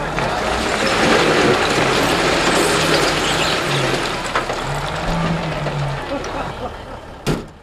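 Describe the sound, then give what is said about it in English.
Two heavy dump trucks, driven by governors, dump ceremonial first loads with a steady, rushing roar over idling diesel engine rumble, a sharp clank near the end, and faint voices in the background. “So we've got two dump trucks staged.”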